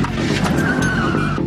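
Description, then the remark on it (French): A car brakes hard, its tires letting out a loud, sustained squeal over a dense rumble of engine and road noise, all packed into a short burst. “T'entends là le coup de frein de la voiture?”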